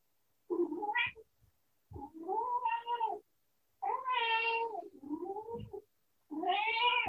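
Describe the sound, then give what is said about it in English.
A cat, the household pet Annie, meows loudly, giving four or five long, drawn-out, wailing calls in a row with brief pauses between them. No one speaks. “And there's Annie supporting the process with her beautiful voice, our cat.”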